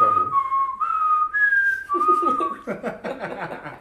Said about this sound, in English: That's actually a strong ass whistle. Yeah. That's actually a strong ass whistle. Like, I'm very proud of you.